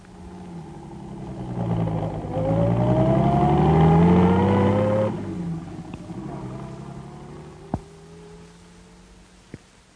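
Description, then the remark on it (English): A car engine revs up and pulls away, its rising drone swelling for a few seconds before fading out. A couple of sharp clicks follow in the quieter stretch afterward. “Jack, would you be good enough to run me up? Of course, straight away. Jump in.”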